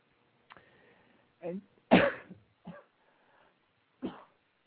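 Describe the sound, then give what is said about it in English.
A few short, harsh coughs break out one after another, the second the loudest, then a final cough after a pause, with no talking around them. “I don't have a cough button.”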